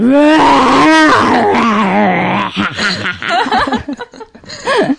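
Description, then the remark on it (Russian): A person imitates a bear laughing with a loud, growly, throaty rumble for a couple of seconds, then breaks into choppy, breathy chuckles and snorts. “Медведь. Боже, как смеяться медведь.”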